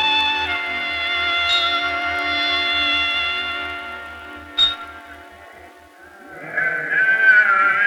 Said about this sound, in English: get your sheep out of my barley field!